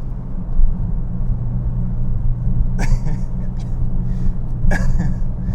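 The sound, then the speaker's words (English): A Porsche 911 engine rumbles with a steady, deep, loud drone while driving on Snake Hill, with a couple of brief breathy vocal noises over it. “Oh, thank God for Porsche 911s.”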